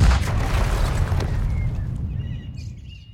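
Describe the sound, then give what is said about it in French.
A deep, booming dynamite blast with a sharp onset, its heavy low rumble rolling on and slowly fading over a few seconds, while faint birdsong emerges near the end; Germans blasting tunnels into the rock of the montagne du Roule, Cherbourg, September 1942. “Profitant de ce point culminant, les Allemands creusent des tunnels à la dynamite et aménagent des casemates en béton armé, intégrées à la roche pour y placer des canons.”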